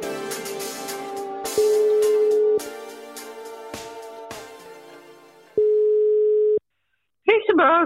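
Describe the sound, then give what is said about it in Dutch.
Two long, steady mid-pitched ringback tones of an outgoing phone call to a mother, each about a second and spaced several seconds apart, sound over rhythmic background music that fades out; she answers briefly at the end. “Ja, ik bel je even voor een tussentijdse evaluatie.”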